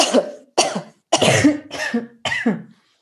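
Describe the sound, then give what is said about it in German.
A series of loud, forceful coughs, about five harsh bursts in quick succession with brief pauses between them, with no talking, as a person coughs hard while bent forward in a hunched, rounded-back posture. “Und wenn man mal in dieser vorgebeugten Position einfach dreimal ganz feste hustet, ganz laut.”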